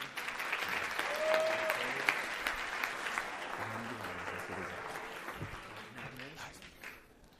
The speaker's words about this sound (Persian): مشکل فنی داشتیم حل شد. خودتون تشویق کنید.